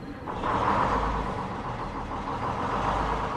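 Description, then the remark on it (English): A crab boat's engine in Shadyside, Maryland rumbles to life early in the morning under rain-threatening skies and settles into a steady idle, with a deep low throb and a continuous mechanical drone and no voices. “The captain fires up the engine, and it's time to begin another day on the water.”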